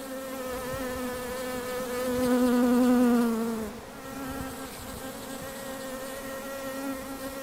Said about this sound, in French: Amener des insectes, et en particulier des abeilles, ça a quelque chose de très sympathique, de bourdonnant, ça redonne une échelle de bruit aussi.